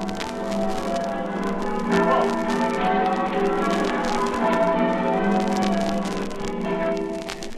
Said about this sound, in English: Now we'll go over into the ringing chamber of the bell tower and listen to the creaking of the ropes and the voice of the conductor giving his instructions.